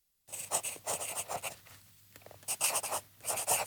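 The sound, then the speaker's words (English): A pen scratches across a small piece of paper in quick bursts of strokes as a note is written at a desk, pausing briefly midway before the writing resumes on another piece of paper with the same brisk rhythm. “He came to the end of the small piece of paper and continued on another piece.”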